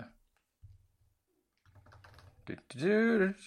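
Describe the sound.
Soft, rapid tapping on a computer keyboard comes in short bursts before a man's voice briefly cuts in at the end.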